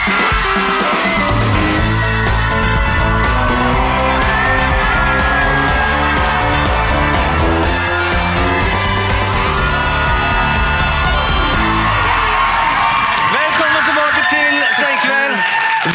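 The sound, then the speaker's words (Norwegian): A loud, dense crowd roar as an audience at Chateau Neuf in Oslo, Norway, welcomes hosts walking onto the stage: cheering and whooping voices sustained for the whole stretch, with overlapping shouts rising and falling and scattered clapping underneath. “Vi går inn, og får fantastisk velkomst av publikummet vårt, som nok følte de var med på noe ekstra spesielt.”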